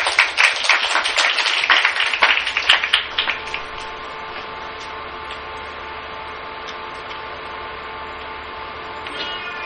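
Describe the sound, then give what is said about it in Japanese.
A crowd applauds briskly for about three seconds to welcome a speaker giving his Christian testimony, the clapping fairly loud, then it stops abruptly and only a steady, quiet hum remains. “拍手を持ってお迎えしたいと思います。”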